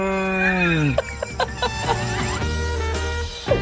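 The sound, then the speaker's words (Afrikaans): A loud moo from a real cow, a drawn-out tone that slides downward in pitch, followed by a few sharp clicks and knocks over a low, steady drone. “Dit is regte koei.”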